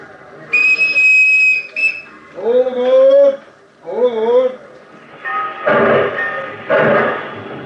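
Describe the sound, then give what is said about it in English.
A loud, steady train whistle blows for about a second, followed by brief voice-like sounds and then rhythmic, noisy chugging bursts as the train starts moving off. “As usual, Lydia missed the train.”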